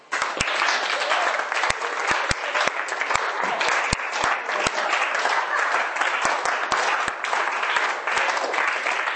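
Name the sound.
audience clapping hands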